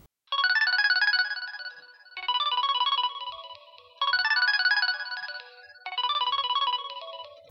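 Seth's mobile phone ringtone plays a repeating electronic melody in four even bursts, loud, with short pauses between phrases and no voices.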